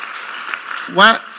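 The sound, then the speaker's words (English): An audience claps in a steady, dense patter of hand claps, and near the end a single voice briefly calls out over the applause. “Why are they clapping?”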